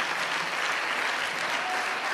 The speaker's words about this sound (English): Let's give the Lord a round of applause all together.